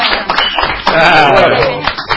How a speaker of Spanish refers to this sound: Fuerte. Un aplauso, por favor.